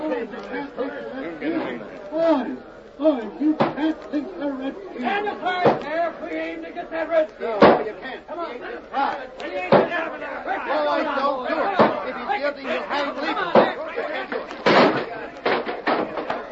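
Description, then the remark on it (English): An angry mob shouts and clamors while heavy blows pound against a jail door again and again, roughly every couple of seconds, loud, with crowd voices throughout, as the mob busts through the door. “They busted the other door.”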